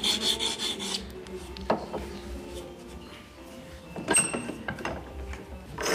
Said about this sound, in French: Puis encore une lime cylindrique pour limer l'intérieur du chevalet.